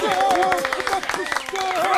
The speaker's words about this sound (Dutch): Applaus!